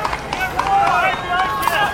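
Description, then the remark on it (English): A runaway carriage horse, with no driver in the carriage, gallops through Central Park with quick, repeated hoofbeats striking under raised, shouting voices that fill most of the two seconds. “You can hear just how quickly those gallops are.”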